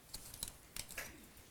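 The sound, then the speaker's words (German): Several light plastic clicks and rattles as a few pens are picked up and handled for drawing, a quiet series of short taps spread over about a second and a half, with no one talking. “jetzt möchte ich zeichnen. Nehme ich ein paar Stifte.”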